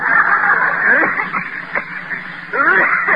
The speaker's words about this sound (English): Hey, that's a bad cough you got there. I don't like it.